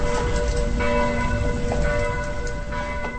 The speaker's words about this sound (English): In the tiny town of Lanchot, near the Czech-Austrian-Slovak border, the church bells ring as I watch a horse draw a cart out of town and towards the 3,000 hectares of the Podluží forest.